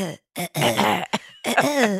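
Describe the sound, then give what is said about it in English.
A voice clears its throat in several rough, raspy bursts with brief pauses between them, fairly loud, with no speech, from a tickle in the throat. “my throat still has a tickle pickle. Oh. I guess it must be post-nasal drip”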